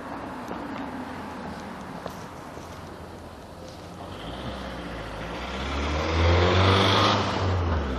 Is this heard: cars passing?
yes